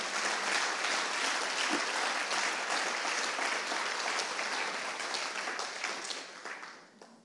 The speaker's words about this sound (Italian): Diamo ancora un applauso a Gesù.